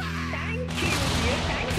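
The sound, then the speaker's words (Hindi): After a brief pause, a single loud cannon salute shot booms out, its broad rumbling roar lingering and filling the rest of the short clip. “और इसीलिए इसके लिए भी और बैटल ऑफ सेक्स जीतने के लिए भी हम आपको दे रहे हैं तोप की सलामी.”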